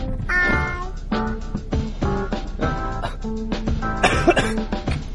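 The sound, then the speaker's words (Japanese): Repeated coughing, a cough that has not yet stopped after influenza, comes in short bursts, several in a row with brief pauses, loud, with no talking over it; some bursts have a high, strained, almost squeaky edge. “まだね、咳が止まらないんですけれど”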